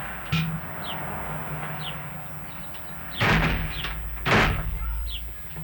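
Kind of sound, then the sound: household object, door slammed shut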